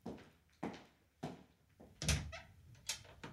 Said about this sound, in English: Was that the door